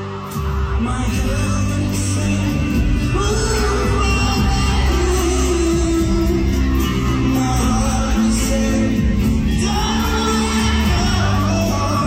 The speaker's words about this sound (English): I love hearing the crowd singing along.